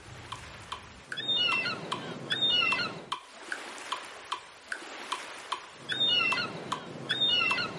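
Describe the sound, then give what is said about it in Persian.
Rushing surf hits the shore, swelling and receding in a repeating pattern, while short, high seagull cries ring out over the waves, with a steady ticking pulse running beneath everything. “ما میتونیم اونا رو به موجای دوتایی تقسیم کنیم و روی موج دوم دو بار صدای مرغ دریایی بذاریم.”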